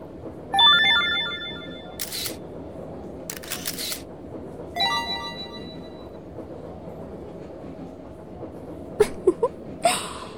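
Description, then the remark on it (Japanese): Scattered smartphone camera shutter sounds from people taking photos and videos with their smartphones snap several times, some in quick bursts, mixed with short electronic chime tones over a steady low murmur of background noise. “しかもほら、人によってはスマホで写真や動画を撮って その上、拡散までなさっているみたいですね。”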